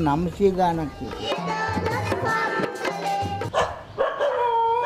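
A pack of dogs roaming the grounds of a leprosy asylum in Hendla bark and yelp over one another in a dense, continuous chorus, fairly loud, with some drawn-out howling tones mixed in throughout.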